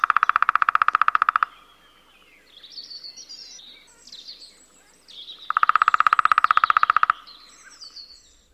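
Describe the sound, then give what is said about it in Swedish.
A lesser spotted woodpecker calls in two loud, rapid runs of repeated notes several seconds apart, while fainter high songbird chirps and twitters fill the gap between them. “Mindre hackspett.”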